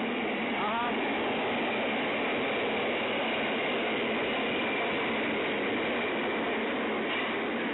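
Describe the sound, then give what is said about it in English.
A subway train rolls steadily along the tracks, a loud continuous rumble and rush of noise with a brief high squeal near the start, and no voices. “And by the way, you on the subway.”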